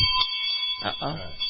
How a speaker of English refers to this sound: Okay. I hear the bell is ringing. Yes, it is.